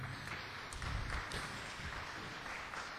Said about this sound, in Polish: Wielkie brawa dla zespołu.